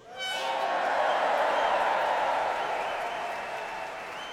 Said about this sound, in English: For now, let's put our hands together and let's give a big round of applause to the hundreds of artists